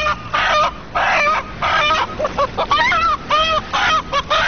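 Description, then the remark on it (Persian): A hen clucks loudly in a rapid run of squawky, irregular bursts, roughly a dozen calls over a few seconds, with no one talking. “مرغ جان، سال که گذشت مردم میگه سال مرغ بود و سال جدیدم میگن سال سگای گرامی است. خودت چی گفتنی داری در این باره؟”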